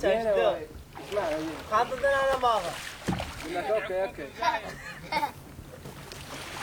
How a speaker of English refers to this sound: A traditional marsh Arab skiff, long, narrow and sharp-prowed and full of giggling children, is poled past us along the channel